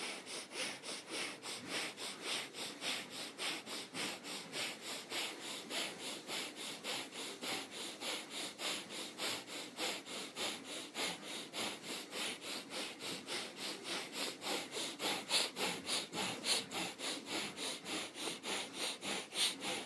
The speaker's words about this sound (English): On our last breath, we'll put our thumb tips together at the top of above our head. Last breath, breath of fire, begin.